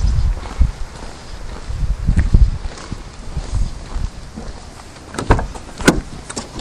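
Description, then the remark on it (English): A car door is handled, with low rumbling thumps followed by a few sharp latch clicks and knocks near the end. No one speaks. “Door.”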